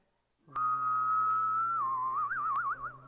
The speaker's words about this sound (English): Okay, let's try whistling and humming at the same time.